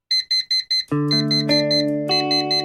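An alarm clock goes off in the morning: four quick, shrill electronic beeps, then a loud, sustained melodic chime that steps through a few notes. It is clear, with no one talking.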